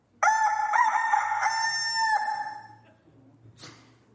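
A rooster crows once, loud, a long harmonic cock-a-doodle-doo lasting about two seconds before trailing off, followed by a brief rustling burst.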